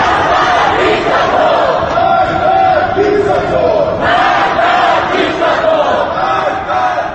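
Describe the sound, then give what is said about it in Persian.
Dozens of people in Tehran's Apadana district, Iran, shout and chant angrily on 22 June in protest over the election results, a dense, continuous roar of many raised voices with rising and falling waves of yelling throughout. “به تاریخ 22 جون در منطقه آپادنای تهران ده‌ها تن با خشم فریاد می‌زدند.”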